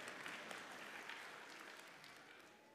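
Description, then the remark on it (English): Steady, dense clapping from babies during an Easter sermon continues throughout, even in loudness, fading only slightly toward the end, with no speech over it. “Thank you, babies, for clapping and crying.”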